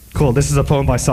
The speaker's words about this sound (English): It is called The Sound Image. Wow, there is so much reverb.